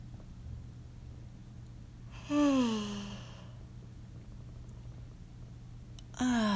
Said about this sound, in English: Deep inhale, stretching the mouth open wide, stretching the jaw. and yawn.